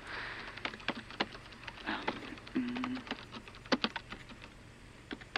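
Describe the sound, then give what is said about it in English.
Someone types on a computer keyboard, the keys clicking in quick, uneven bursts with short pauses between runs of keystrokes. “You know how to work a keyboard, so you're already better than most of them.”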